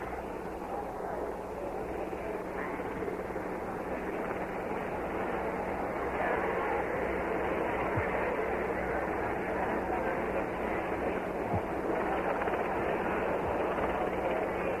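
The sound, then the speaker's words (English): A helicopter idles on the ground at Andrews Air Force Base, in a cleared space before a short trip to the White House, its rotors turning. A loud, steady engine roar with a rapid low thumping holds unchanged and constant for the whole stretch. “Helicopter now has moved out to a cleared space so that it can take the short trip over to the White House from Andrews Air Force Base.”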